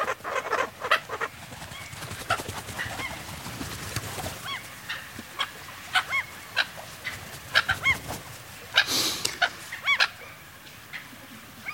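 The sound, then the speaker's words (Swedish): Gulls call repeatedly outdoors by a stream in the evening, sharp cries coming in irregular bursts, some loud, others fainter, over steady background noise, with what sounds like flapping or rustling between calls. “Ja, men jag misstänker att det är en rev som är vid bäcken och plockar åt sig mörtan nu eftersom de flaxar undan de här måsarna.”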